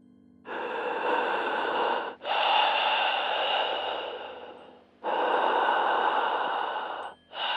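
Loud heavy breathing from a caller on a phone line, with long, rasping inhales and exhales, about four breaths with brief pauses between them, sounding slightly muffled through the phone line. No one speaks.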